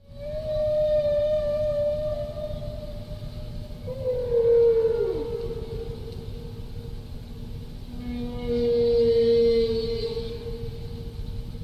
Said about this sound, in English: Now that's one phrase, and the whale repeats its phrase and sort of yodels the second time.